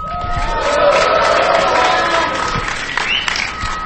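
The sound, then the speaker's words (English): An audience at a DC-404 demonstration shouts and cheers loudly for several seconds, making noise to be run through bandpass filters and turned into bits, a dense, sustained roar of mixed voices with a few whistles and higher yells rising above the din. “Yeah, everybody make a lot of noise.”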